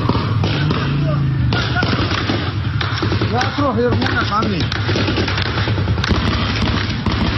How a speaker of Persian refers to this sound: در بعضی از ویدیوهایی که از ماه شهر منتشر شده، تیربارهای کالیبر بالا پشت وانت نصب و در شهر مستقر شدند. شاهدان عینی میگویند در شلیک به نیزار ماه شهر که معترضان به آن پناه برده بودند، از تیربار هم استفاده شده است.